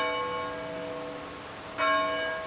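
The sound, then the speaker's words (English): The bells of Knox College in Galesburg ring to mark the start or finish of a class period, resonant with long, sustained overtones, a fresh strike landing near the end over the fading hum of earlier tolls, clear with no voices. “About 15 miles away in Galesburg, the bells at Knox College ring to mark the start and finish of each class period.”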